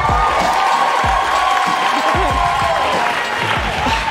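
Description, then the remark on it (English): The Daily Show studio audience applauds and cheers loudly and steadily for about four seconds as Pam Grier is welcomed, a dense wash of clapping with scattered whoops and shouts, and music faintly audible underneath. “Give an applause, ladies and gentlemen.”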